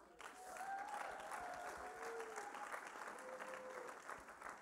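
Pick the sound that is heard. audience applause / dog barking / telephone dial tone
audience applause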